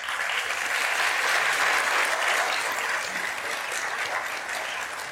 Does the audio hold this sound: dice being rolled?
no